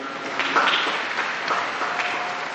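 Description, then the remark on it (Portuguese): A large crowd in St. Peter's Square applauds the missionaries at the Pope's call, a dense wash of many hands clapping at once, sustained and fairly loud throughout with no break. “Também a eles um grande aplauso, todos.”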